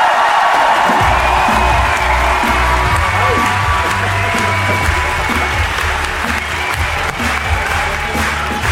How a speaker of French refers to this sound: Si, ils ont de l'humour, hein, et vont nous faire un tonnerre d'applaudissements.